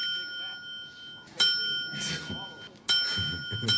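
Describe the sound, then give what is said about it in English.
A small hand bell is rung repeatedly, with sharp dings about a second and a half apart whose bright metallic tone lingers between strikes, over a low murmuring background. It is the bell rung by actor Mark Margolis as a drug kingpin who had suffered a stroke in Breaking Bad. “The best-known lines from actor Mark Margolis in Breaking Bad were not lines at all, but ringing a bell as a drug kingpin who had suffered a stroke.”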